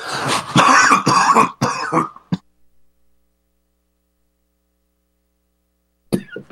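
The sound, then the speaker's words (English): A burst of harsh coughing and throat clearing for about two seconds, then a long silence before a brief final rasp at the end. “I've got a cough button, that's what's after going 40.”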